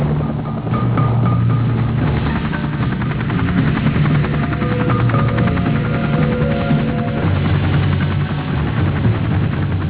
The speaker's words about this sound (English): Larry Burrows accompanied Farley on a mission to transport South Vietnamese troops into a combat zone. In all, 17 helicopters would be involved, and three round trips would be required to deliver the troops.